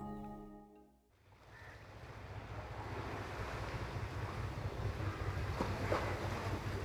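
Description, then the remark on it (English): A brief musical tone fades out, then a steady wash of water and wind takes over, like small waves slapping against the docks where a small boat is tied in the city of Manaus, with a faint breezy rush underneath. “It's here, in Manaus, that we find a little man with dark, wavy hair approaching a small boat tied near the docks.”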